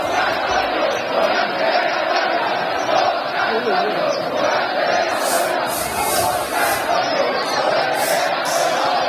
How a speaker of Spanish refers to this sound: Bueno, eso que escuchan es el gentío que se ha juntado no a las puertas de la Plaza de las Ventas, sino en el Hotel Wellington, el lugar de referencia de los toreros que se alojan en Madrid. Morante se ha asomado al balcón con un gesto solemne